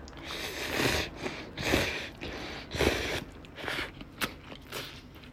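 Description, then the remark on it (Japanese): Wet slurps and chewing of instant noodles made with sesame oil repeat in irregular bursts, with soft crunching and breathy sniffs between mouthfuls and no talking. “じゃあメインで咀嚼音がしますんでご注意ください。”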